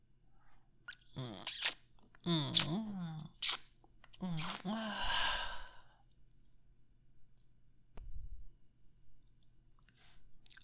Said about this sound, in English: You're breathing so heavily.